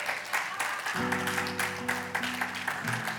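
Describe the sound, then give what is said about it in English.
A crowd claps steadily throughout for the news that the men's restroom and both urinals are finished, a dense patter of many hands, while sustained organ chords swell in underneath about a second in. “You clapped on the urinals, but not on the gates.”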